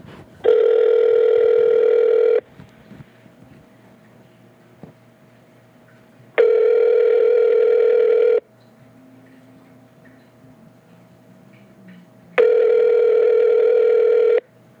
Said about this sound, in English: And now, let's give her a call on the phone, see what's up.